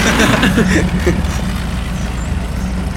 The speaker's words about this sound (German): Da hinten kommt er ja. Man hat ihn auch schon vorher gehört. Ach, stimmt. Am Knattern von seinem alten Wagen. Genau.